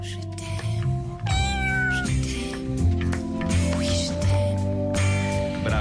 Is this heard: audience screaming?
no